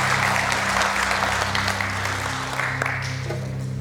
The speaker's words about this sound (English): Let's give Jesus a clap.